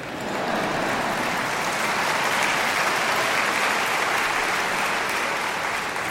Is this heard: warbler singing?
no